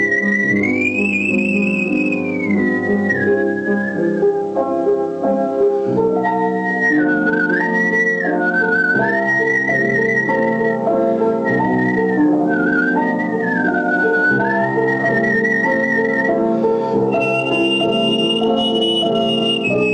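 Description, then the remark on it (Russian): A person whistles a flowing melody over instrumental accompaniment, the pure whistled tone gliding between notes and sustaining phrases clearly and prominently for the whole stretch, with no talking. “Я как бы пел свистя.”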